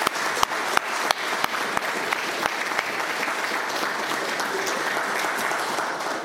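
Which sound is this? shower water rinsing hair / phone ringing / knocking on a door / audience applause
audience applause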